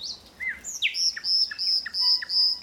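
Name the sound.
common nightingale singing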